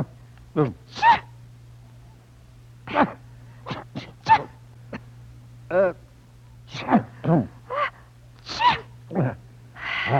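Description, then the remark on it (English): A rapid run of loud sneezes after taking a pinch of snuff, roughly a dozen short explosive bursts, seemingly from two people trading sneezes back and forth, with brief pauses between them and a low steady hum underneath. “Do you sneeze? Yes, senora, three times. So do I.”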